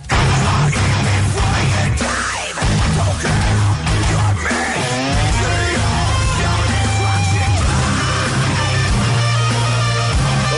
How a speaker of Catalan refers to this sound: una tècnica molt singular, una tècnica característica dels estils de metall extrem anomenada cant gutural. I en el seu cas concret es tracta d'una espècie de rugit bestial, però interpretat en una tessitura aguda.